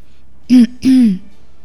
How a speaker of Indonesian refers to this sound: Lati berdehem.